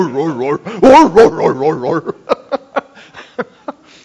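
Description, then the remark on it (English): A person mimics neighborhood dogs laughing at another dog: warbling, yelping hoots at first, then a run of about eight short, rhythmic huffing chuckles, fairly loud with no other sounds. “And then they put him outside, and all the other dogs in the neighborhood see it, and they start laughing at him.”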